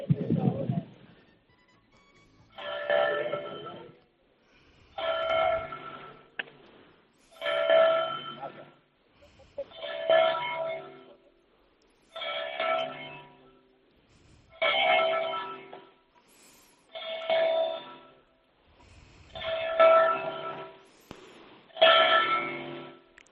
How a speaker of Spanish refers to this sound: Han sido las campanadas que indican que son las 9 de la mañana en el reloj de la Catedral de Jaén.